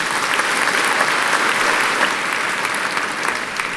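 An audience at a Christmas festival concert claps steadily for members of the orchestra and choir, a dense wash of many hands with brief louder spikes, sustained and even throughout with no voices standing out.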